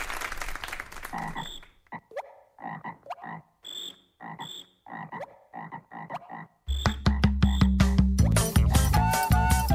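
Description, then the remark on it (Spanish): Rhythmic frog croaks from a pond pulse in short, evenly spaced bursts, clear, before a loud, dense burst of music takes over for the last few seconds. “É assim que o sapo canta na lagoa, sua toada improvisada em 10 pés.”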